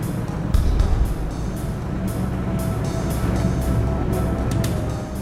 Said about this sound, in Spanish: McDuff condujo el auto con los tres jóvenes en la cajuela y Roy Del Green lo siguió en el vehículo